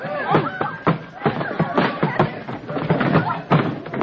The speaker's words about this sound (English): He's right, he's going too fast! I've got to try before there's a serious accident! Look out, he's swerving! Buggy's going over!